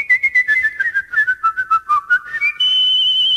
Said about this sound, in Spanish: ¿Se escucha el aire? Hombre, es que el silbar...